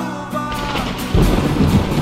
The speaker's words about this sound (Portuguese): Noites passou em claro, ouvindo o barulho da chuva.